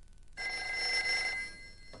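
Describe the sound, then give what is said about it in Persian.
A telephone bell rings once in a sustained, bright metallic burst lasting about a second, clear, then cuts off into quiet room noise. “گوشی؟ بفرمایید، خواهش میکنم.”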